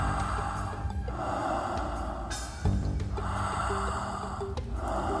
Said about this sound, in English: How much presence would you like to have right now, exploring this moment with the depth and the richness of a full inhale and an easy, relaxed exhale? Stay with the breath. Stay with the breath and notice how the rhythm can actually breathe you.